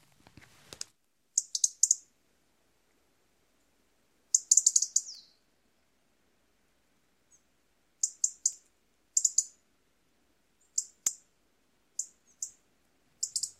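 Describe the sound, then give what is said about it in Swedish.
A small bird gives sharp, high clicking and chattering calls in short bursts of a few notes each, repeated at irregular intervals against a quiet background, clear. “så behöver man lite tricks för att skilja deras knäppanden och knattrande, deras lock- och varningsläten åt”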